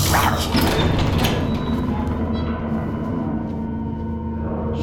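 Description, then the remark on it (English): A heavy door grinds and rattles open as someone opens it, a mechanical sliding scrape over a steady low rumble that settles into a dull hum as the motion fades. “Christ, you just open every goddamn door like no big deal.”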